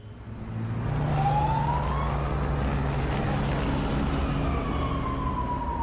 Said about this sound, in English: A police car speeds out of the temporary police station in Dipsluit.